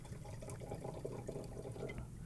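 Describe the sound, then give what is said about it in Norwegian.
Red Chianti wine pours steadily into a glass, a continuous gurgling splash with a low, full body and faint bright glints, lasting a couple of seconds with no talking. “Chianti, jeg må helle opp I det der først som vanlig.”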